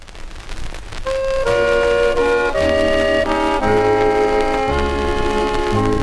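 An orchestra plays the opening bars of a song from an old Sonora-label shellac record, sustained harmonic chords shifting every second or so over a steady hiss, loud and full with no voices.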